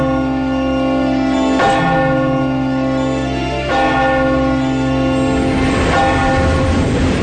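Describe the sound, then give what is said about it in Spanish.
A deep clock bell tolls three slow, loud strikes about two seconds apart, each ringing out with a long humming resonance that carries into the next stroke: the clock's last chimes of the day, at midnight. “El reloj comenzaba a dar las últimas campanadas del día.”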